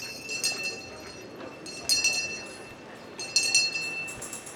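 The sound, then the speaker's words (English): At a solstice celebration at a mansion museum, a person standing at the center of a circle strikes a bell three times at an even, unhurried pace, each bright metallic strike ringing on in high, sustained tones over a steady background hiss. “stands at the center of the circle and rings a bell”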